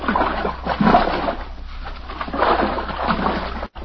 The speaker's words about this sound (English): We ate our sandwiches, took a drink of water from the canteen, and then had ourselves a swim in Trident's clear, green water.